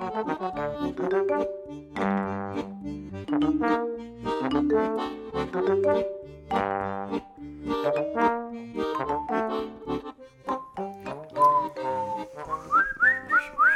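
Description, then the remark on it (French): Someone whistles a lively, continuous melody, fairly loud, with notes stepping up and down in a steady rhythm for over ten seconds, with no talking. “Et on siffle toujours aussi bien dans cette midinale.”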